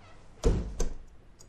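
A bathroom door is pushed shut with a solid thud, followed a moment later by a second, lighter knock as it settles into the frame.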